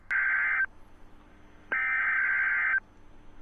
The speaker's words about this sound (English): I'm getting a dial tone, guys.